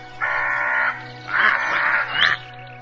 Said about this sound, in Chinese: 乌鸦冲着公冶长哇哇地叫了起来。 别人当然听不懂乌鸦在喊什么了，可是公冶长却听得十分清楚。